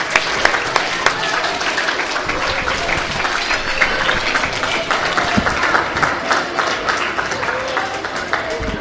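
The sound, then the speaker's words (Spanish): Sustained applause from an audience at a school, given for a group of schoolchildren: dense overlapping claps at a steady, fairly loud level for several seconds, with faint crowd murmur underneath. “Bueno, les damos un aplauso porque lo han hecho genial, ¿eh?”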